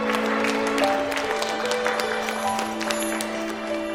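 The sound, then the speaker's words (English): A class of children claps steadily in a classroom for a boy holding up his star ornament at the front of the class, with scattered, overlapping hand claps lasting throughout, moderately loud, over a faint sustained tone in the background. “He holds up his star ornament, and the class claps.”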